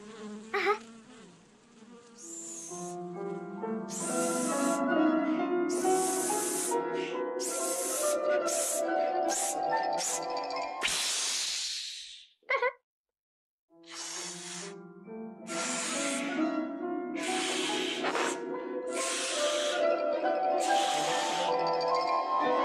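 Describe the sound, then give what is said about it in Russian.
A balloon is blown up with loud, buzzy hissing air that squeals in rising, wavering tones, broken by a brief silence partway through before the inflating resumes. No one speaks. “Надувай шарик.”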